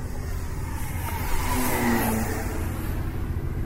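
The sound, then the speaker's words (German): A model airplane engine drones steadily with a high, buzzing whine, its pitch rising briefly in the middle before settling back, at the Luftsportverein Großumstadt model airfield on the Eselsberg in Großumstadt. No one speaks. “wir sind hier in Großumstadt auf dem Eselsberg auf dem Modellflugplatz vom Luftsportverein Großumstadt”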